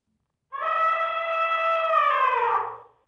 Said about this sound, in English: That's the sound of elephants trumpeting.